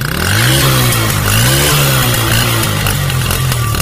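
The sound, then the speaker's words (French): A motorcycle engine revs steadily as it rides west in Côte d'Ivoire toward the village of Ronzo near the border with Guinea, its pitch rising and falling slightly, loud and continuous with wind and road noise and no voices. “À 5 km plus à l'ouest, toujours en moto, nous voilà du Ronzo, dernier village ivoirien en partance pour la République de Guinée-Conakry.”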